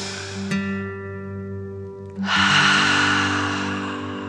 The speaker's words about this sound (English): Breathe in through your nose, filling up your belly, and then out through your mouth, imagining you are breathing fire. Ready? Deep breath in and out.